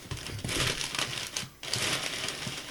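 Close, sustained paper crinkling and rustling, bright and crackly, with a brief pause midway before the handling resumes, like wrapping being torn and crumpled.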